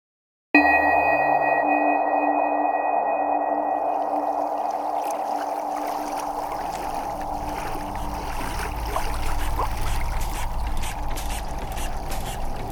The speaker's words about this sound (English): he's tending to the boat's noisy engine. A strange engine, with large pipes and valves and wheels, like something out of a history museum.